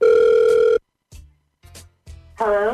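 An outgoing phone call's ringing tone from the Hot 96.9 radio station calling a listener: one steady electronic ring lasting under a second, then a pause with faint line clicks and rustle, ending in a warbling, wavering electronic tone.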